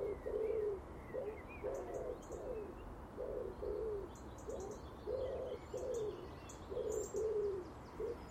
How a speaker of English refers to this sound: That starling interrupted the big wood pigeon's calls. Oh, he's away again. He's sitting on top of the telegraph pole at the bottom corner of the garden.